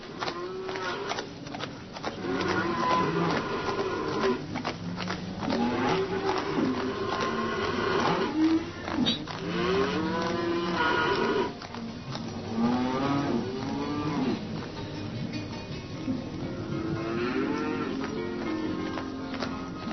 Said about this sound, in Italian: che andavano qua e là coi loro vitelli, e dappertutto era il suono della mungitura.